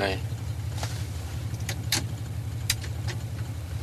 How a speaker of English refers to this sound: I left the engine running a minute ago. You flash the lights there now.